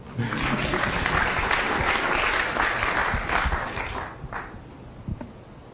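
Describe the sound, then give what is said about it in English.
An audience applauds at the end of a scientific talk on galaxy halos, with dense, steady clapping that holds for about four seconds, then thins out into a few scattered claps as it fades. “Clapping.”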